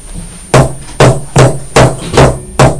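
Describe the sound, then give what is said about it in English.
A hairbrush bangs hard against a surface six times in quick succession, each loud knock ringing briefly before the next. No one speaks. “What are you doing, banging your hairbrush on the tail?”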